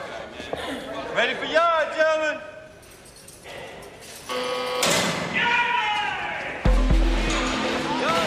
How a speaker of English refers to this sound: The doors slide open and the inmates, all in denims, walk out and line up.